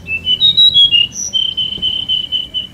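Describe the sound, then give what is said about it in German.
A small bird chirps in a town: a few quick, rising and falling whistled notes, then a steady run of repeated short high chirps over a faint low background hum. “she saw a tiny bird, which looked very hungry and could find nothing to eat.”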